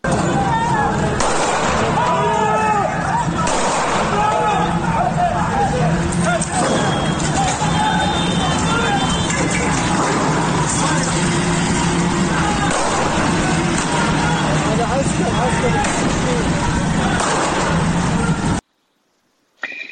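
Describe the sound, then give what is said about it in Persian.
Repeated sharp bangs of gunfire in Susangerd, as military forces fire at street protesters, burst out at irregular intervals over a constant roar of crowd noise and shouting voices, with traffic rumble underneath the whole time. “صدای تیراندازی رو در ویدیوی منتشر شده از سوسنگه بشنویم با هم.”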